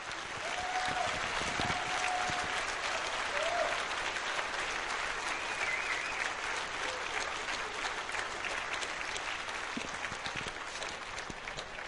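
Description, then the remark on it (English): A crowd at DEF CON 13 applauds the speakers steadily for about twelve seconds, dense overlapping clapping at an even level with no voices speaking over it, plus a faint whistle or two early on. “So, let's give a round of applause to the speakers, if you were.”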